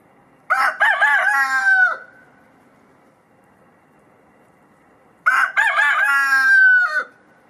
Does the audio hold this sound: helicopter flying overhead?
no